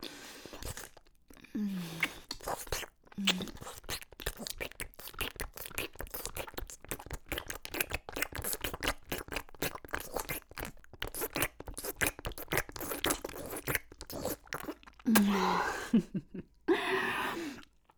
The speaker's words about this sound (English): And then I'm going to swallow down hard all around you, constricted with deep hard swallows, repeatedly, like this.